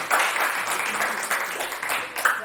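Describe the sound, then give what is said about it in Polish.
Steady applause from an audience, a dense wash of many hands clapping at a fairly even loudness for a couple of seconds, with a few brighter bursts rising out of the crowd noise. “Dziękuję jeszcze raz, bardzo proszę o brawa i chodźmy.”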